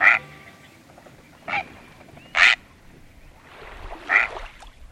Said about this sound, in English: That prehistoric-sounding call is from a great blue heron. This tall, stately bird is commonly seen standing alone on beaches, in marshes, on docks and pilings, even on tree branches, watching, waiting.